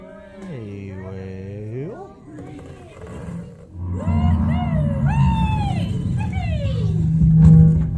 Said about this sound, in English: Dude, there's a whale coming over. Dude, seriously, there's a whale coming over.